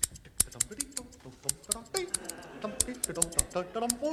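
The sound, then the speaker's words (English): Scissors snip through the string tied around a parcel in a quick series of sharp metallic clicks, irregularly spaced, with a voice murmuring underneath throughout. “I can't get the string undone. Let me try with the scissors.”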